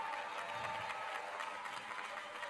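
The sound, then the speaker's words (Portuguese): A crowd applauds steadily for Governor Helder Barbalho, with dense overlapping clapping that holds an even, hissy level throughout and has no voices over it. “E eu quero agradecer ao governador e pedir uma salva de palmas ao governador Helder Barbalho.”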